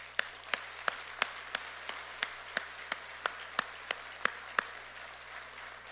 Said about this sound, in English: if your life has been touched by a mother or a mother-in-law or a grandmother, or perhaps by a spiritual mother, a Sunday school teacher, or a sister in Christ, would you just join me in a round of applause as we honor our mothers today?